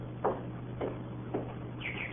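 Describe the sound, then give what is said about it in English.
Three short, evenly spaced chirps, then a quick run of higher twittering notes near the end from a canary standing in a corner under a cloth, fairly faint over a steady low hum. “It's a canary. Now, that's the bird we heard chirping in here, remember?”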